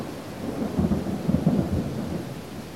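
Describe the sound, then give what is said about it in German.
Low, heavy thunder rumbles continuously through a short, heavy summer thunderstorm over a mountain village as humid summer air breaks, swelling into a few louder rolls midway, with steady rain hissing underneath. No voices. “Als ich das Kloster verlasse, entlädt sich die schwüle Sommerluft in einem kurzen und heftigen Gewitter über dem Bergdorf.”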